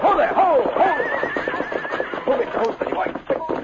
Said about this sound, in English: the horse hitched to the vehicle suddenly snorted and began to buck and sidestep.